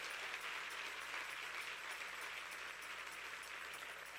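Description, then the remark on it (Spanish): A crowd applauds God, the one who gave them life, clapping steadily and continuously, a dense, even wash of many hands applauding with no break and no voices standing out. “Y si usted puede aplaudir al que le dio vida, hágalo mejor.”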